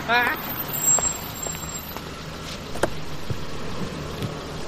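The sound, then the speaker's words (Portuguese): A car rolls up with a steady, moderately loud engine rumble and road noise, a few small clicks and knocks over the hum, the sound holding fairly even throughout. “Olha o carro chegando.”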